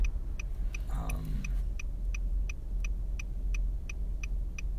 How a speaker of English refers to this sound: And today I am recording from the car.